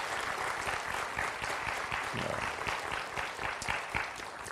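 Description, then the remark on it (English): Students clap together in sustained applause for their faculty and leadership, a dense, steady patter of many hands that holds at an even level for several seconds with no one speaking. “Fact is, would you join me, students, in just applauding our faculty and our leadership there?”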